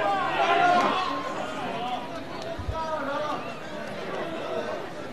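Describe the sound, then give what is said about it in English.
A crowd of baseball fans yelling and cheering in a stadium in the bottom of the eighth inning with the score 7-2, a steady wash of many overlapping voices with a louder burst of shouting at the start and a brief thump midway. “We got the fans yelling.”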